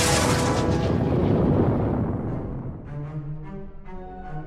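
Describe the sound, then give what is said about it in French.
Lightning bolts sent from a sceptre blast with a loud, roaring burst of crackling noise that slowly fades, leaving a wavering, humming tonal ring at the end. No one speaks. “De son sceptre, elle se mit alors à leur envoyer des éclairs pour les chasser.”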